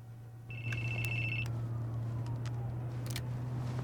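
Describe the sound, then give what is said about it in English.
A phone rings once in the back of a car at night, a steady high electronic tone lasting about a second over a low constant hum, followed by a few faint clicks and rustles. “He puts it back as his phone rings.”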